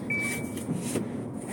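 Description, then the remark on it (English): A driver buckles a car seatbelt with one sharp latching click before pulling out of a driveway. Shortly before it, the car gives a thin electronic seatbelt chime, all over the low rumble of the idling car. “Oh, I gotta put my seatbelt on.”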